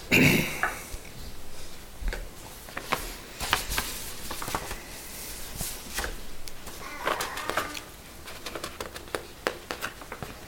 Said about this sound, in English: If I can get my pages turned.